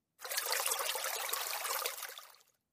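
Water trickles steadily at a riverbank for a couple of seconds, a hissy, bubbling flow with no voices, fading out gently at the end.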